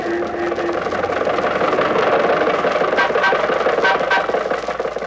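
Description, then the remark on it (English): The engine of Jack Benny's old Maxwell car chugs and rattles steadily for several seconds as it cruises along Hollywood Boulevard, holding up traffic, a loud, rough mid-pitched drone with sputtering bursts and no talking. “And now, ladies and gentlemen, this being the height of the Christmas shopping season, let us leave the studio and journey two blocks north to Hollywood Boulevard, where we find Jack Benny's Maxwell cruising along and holding up traffic as usual.”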